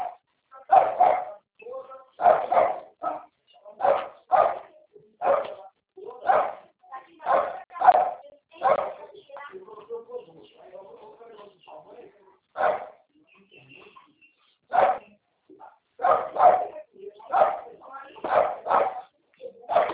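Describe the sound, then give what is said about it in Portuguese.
A small dog barks and yips repeatedly, sharp high-pitched bursts coming in quick runs, pausing briefly midway before resuming just as energetically. “Ah, que cachorrinho é de Maria.”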